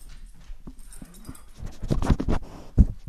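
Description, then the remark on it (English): A dog named Theo pants and scratches at home in Columbia, quiet at first, then a burst of rapid scuffing and rustling in the second half, ending with a sharp thump. “He was doing legal work, writing, and planning the festival at his kitchen table, all in the company of his dog, Theo.”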